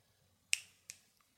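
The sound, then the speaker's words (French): Finger snapping: three crisp, bright snaps at uneven intervals, each sharp and moderately loud with a short tail, over a faint low hum and no voices. “des claquements de doigts par dizaines, par centaines.”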